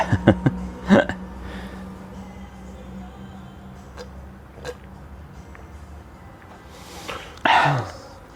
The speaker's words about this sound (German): Also ich habe mich jetzt so nüchtern gehustet, das ist so Horror.